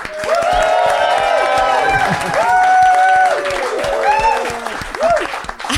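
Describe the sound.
A live audience in Phoenix bursts into loud, sustained applause to vote for one side of a debate, dense clapping mixed with cheers and rising whoops from many voices, holding strong for about six seconds before thinning slightly at the end.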